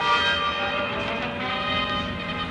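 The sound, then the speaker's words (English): Several bells ring together in a dense, sustained peal, their overlapping tones shimmering continuously at a steady, fairly loud level with no voices present. “Get those bells.”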